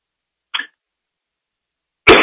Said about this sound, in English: Excuse me, I'm getting a tickling cough.